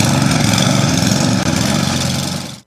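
snowblower engine running

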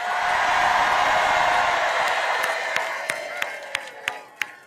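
crowd cheering and applauding

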